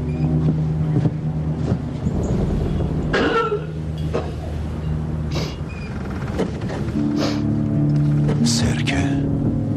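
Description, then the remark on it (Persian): A ship's engine drones steadily in a low, continuous rumble as the ship departs, while wind buffets the microphone, with occasional short clanks and indistinct voices in the mix. “کشتی اونا داره میره.”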